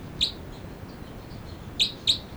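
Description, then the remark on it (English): Three short, high-pitched bird chirps from two birds ring out over a steady low hiss: one early call, a pause, then two quick calls close together near the end. “Both birds.”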